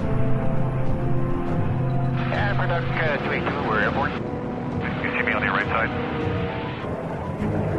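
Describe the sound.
A loud, steady firefighting aircraft engine drone hums continuously at a forest fire, its low tones unbroken, while muffled voices come and go over it in two short stretches.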